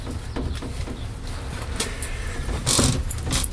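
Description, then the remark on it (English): Metallic jingling of keys, brief bright rattles standing out near the end over a steady low rumble of a car or road traffic, with no talking. “Oh, I have keys. At least I think I do. Yeah, I have keys.”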